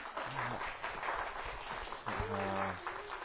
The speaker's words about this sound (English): And let me just say happy Mother's Day to all the moms in the room. Yeah, you can clap. That's appropriate.